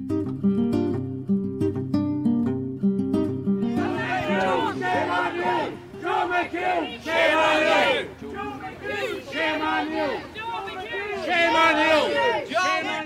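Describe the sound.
A crowd of angry constituents shouts together outside Joe's office in Letterkenny, many raised voices overlapping in loud, surging waves of chanting and yelling, preceded by a few seconds of steady tonal sound.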